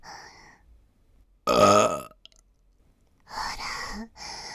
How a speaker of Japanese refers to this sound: ゲップでしょ。